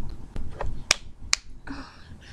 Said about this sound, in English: You slap my inner thighs, legs apart.